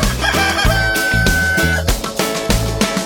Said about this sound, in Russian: Закрою окна, все равно спать не могу. Поет веселый петушок кукареку.